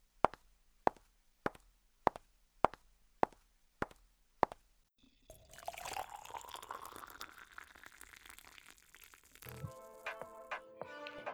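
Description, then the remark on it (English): A steady series of about eight sharp drip-like plops, evenly spaced, then a drink is poured into a cup, the gurgling pitch rising as it fills. “I guess I need another cup.”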